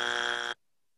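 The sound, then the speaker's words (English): A single short, loud buzzer blast added as a production sound effect, a harsh steady electronic tone lasting about half a second before cutting off abruptly into silence, like a game-show wrong-answer buzzer. “I love that Chris added in the buzzers.”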